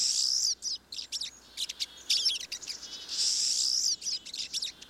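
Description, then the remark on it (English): A flock of siskins calling: high, thin chirps and twitters in rapid overlapping bursts, broken by longer buzzy wheezing notes, fairly loud and steady throughout with no voices. “the dense groups of siskins can easily transmit diseases such as salmonellosis to each other and to other birds.”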